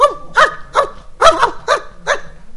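A dog barks six times in quick succession, sharp and fairly loud, each bark evenly spaced in a steady rhythm with no voices around it.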